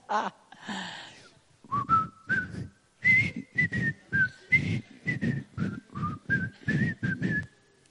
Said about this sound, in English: Can I whistle something right now that you guys might recognize? I'll be done in a minute. I'll be through tormenting you.